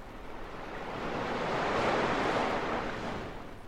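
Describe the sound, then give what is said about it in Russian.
Sea waves wash onto the shore in a broad, hissing surge that swells to a peak and then slowly recedes, a single steady roar with no voices. “Вот оно море.”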